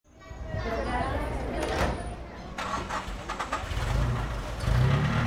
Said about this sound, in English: Classes are over in Mexico City. School buses depart and parents pick up their kids